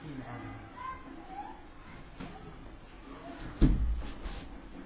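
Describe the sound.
A window is shut with a single solid thud partway through, during an Islamic religious lesson, over a murmur of voices and children's chatter.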